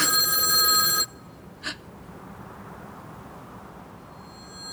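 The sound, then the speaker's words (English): A loud, bright telephone bell rings for about a second and cuts off abruptly, followed by a brief faint chime and then near silence with low background hum. “Is it ringing backwards now? Yes, yes. This one's for me. Hello?”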